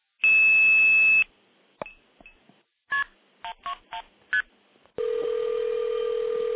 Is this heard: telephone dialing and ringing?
yes